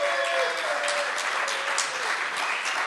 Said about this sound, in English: Ladies and gentlemen, a big round of applause for Jeff Vibbert. Jeffrey!